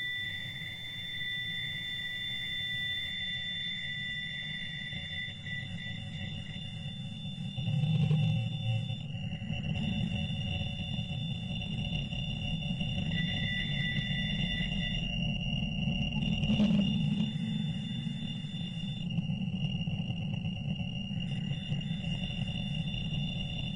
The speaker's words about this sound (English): Yeah, it sounds like radio static. Sure does.